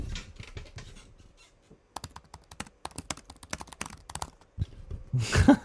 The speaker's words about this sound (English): What you were typing on before sounds like the, like you can literally hear the key hitting the bottom.